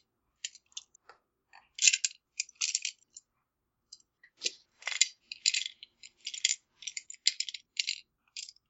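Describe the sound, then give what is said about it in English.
Handfuls of dice rattle and clatter in irregular bursts, sharp clicky collisions bunching together then pausing, fairly bright, with no talking. “I don't know, people are getting out of dice, so that's almost playing with a bunch of marbles.”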